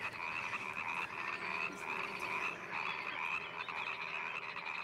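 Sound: frogs croaking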